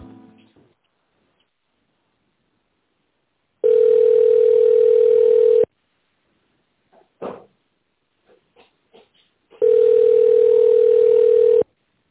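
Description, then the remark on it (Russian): Two long, steady telephone ringback tones while calling the company Liftservis and waiting for the secretary to answer, each about two seconds of a single mid-pitched hum, separated by a pause with a few faint clicks and small noises. No one speaks. “Введите внутренний номер абонента или дождитесь ответа секретаря.”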